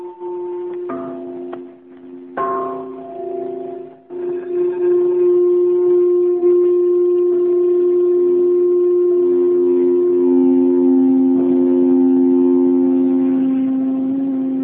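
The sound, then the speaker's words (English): Singing bowls of 18, 12 and 14 inches are struck like bells several times in the first few seconds, and their rich, humming tones overlap and ring on steadily, sustaining loudly with a low, shimmering drone until the end. “I play my bowls almost like bells sometimes, mm-hmm. but here's some bowls. I'll just hit them.”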